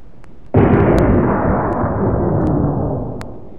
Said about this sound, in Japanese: 我々は腰にあったバズーカ砲を取り出しペンギンめがけて発砲した。